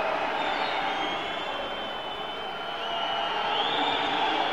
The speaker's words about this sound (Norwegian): Gikk han frem igjen, og så piper publikum.